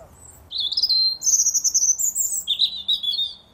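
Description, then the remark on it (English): A robin sings outside a front door in the morning, recorded on a mobile phone: a run of high, thin warbling phrases and trills that rise and fall, bright and clear against a faint background hum with no voices. “It is a robin singing outside my front door.”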